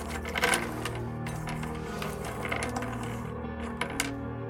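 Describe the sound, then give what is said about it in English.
Wooden sticks rattle and clatter together in a steady shuffling, fairly quiet, with a few sharper clicks standing out as one stick drops into a bowl, no voices present. “Shuffle in the sticks.”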